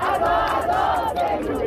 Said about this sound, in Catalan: El so d'una marxa que ha tingut un to molt festiu. Els concentrants s'han cantat, han ballat càntics de suport als Estats Units i també Israel.